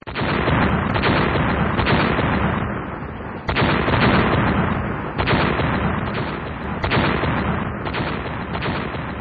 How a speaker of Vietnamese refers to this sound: Loạt đạn pháo binh sau cùng vừa chấm dứt, anh cho toán xung kích bò vào sát lớp kẽm gai của đoàn nghĩa quân cũ. Hàng loạt đạn AK nổ ròn như bắp rang. Những khẩu đại liên M60 cũng lập tức trả đũa.